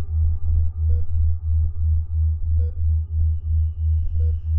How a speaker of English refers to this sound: The machines hum.